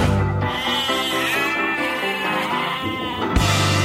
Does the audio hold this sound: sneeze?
no